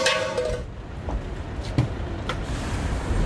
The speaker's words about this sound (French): Nous voilà à Orléans, sur un parking, et on va prendre place à bord d'un bus qui vient d'arriver, le bus des salariés de Sanofi de Toulouse, qui se rend aujourd'hui à Paris pour aller à l'Assemblée Générale des Actionnaires.